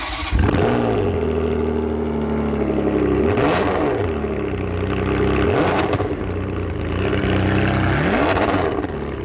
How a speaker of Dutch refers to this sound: Ja, gewoon weer de ouderwetse auto's die in een neutrale stand ook heerlijk praten. Waar de ouderwetse gezellige klappen weer uitkomen. Ja, dan wordt ons autohartje gaat iets harder van kloppen.